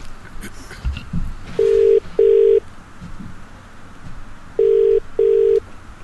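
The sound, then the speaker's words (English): A telephone rings twice in the classic double-burst pattern, two short bright tones, a pause, then two more, loud over a faint background hiss. “You gotta answer the phone first.”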